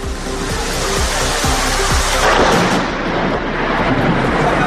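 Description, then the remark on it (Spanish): Thunder rumbles in a dense, steady roar of storm noise, with repeated low booms early on and a louder surge of rumbling midway, loud, with no voices; a thunderstorm over the Serra de Engarcerán that dropped up to 48 litres of rain per square metre, with large hail. “Tormentas que dejaron hasta 48 litros por metro cuadrado en la Serra de Engarcerán o 44 en Cuya.”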